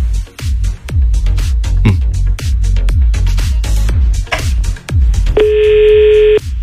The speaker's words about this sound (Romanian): când sun, ce se întâmplă? Sună? Sună, auzi că sună.